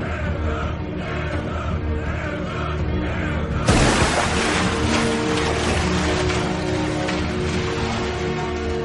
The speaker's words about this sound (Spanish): Escuchad las olas, escuchad al Dios.